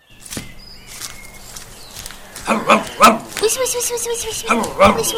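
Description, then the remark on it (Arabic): A dog barks in short, loud bursts, a few sharp barks clustered together after a quieter opening, with some rough growling tones between them. “وصل سوسو طريقه أحبتي، وإذا بكلب في طريقه”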